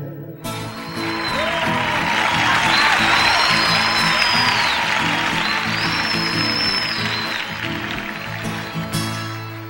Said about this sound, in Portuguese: Foi uma salva de palmas, gritaram vivas pro fazendeiro que tem 1 milhão de pé de café por esse rico chão brasileiro.